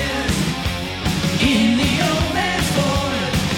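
Loud, dense rock music with driving electric guitar, steady pounding drums and a sustained sliding melody line, playing continuously and up close with no talking over it.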